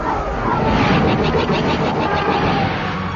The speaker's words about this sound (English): 8 Soros sub Preybird-class starfighters in tight formation roared in from behind them, raking the Kimura with low-power blaster fire.